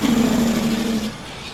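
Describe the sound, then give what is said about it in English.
Steady road traffic noise with a low engine hum that drifts slightly downward as a vehicle passes, then thins to a softer background rumble. No one speaks. “I get weary of the traffic too.”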